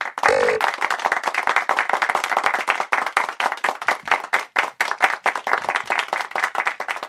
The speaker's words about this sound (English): Like the applause gets longer every week. I've been adding very gently, been adding 0.001 of a second of applause each week.